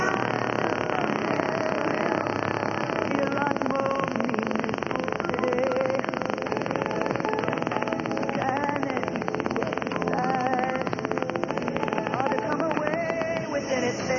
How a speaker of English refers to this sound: If we weren't dissipating that buildup, it would easily blow out the front end of our radios. Here's that telltale sign, and if you don't have a static drain on your wire, unplug your radios as soon as you hear this start.